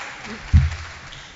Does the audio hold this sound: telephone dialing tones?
no